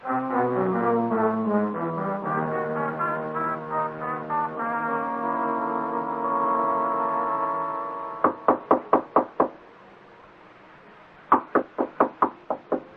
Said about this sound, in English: I heard you knock on Mr. Morris's door